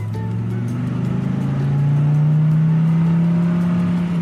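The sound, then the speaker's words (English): A car engine hums loudly during a car ride to school, its low drone climbing steadily in pitch as the vehicle accelerates, with no voices, just the continuous rising rev of the motor. “couldn't contain his excitement during the car ride to his new school.”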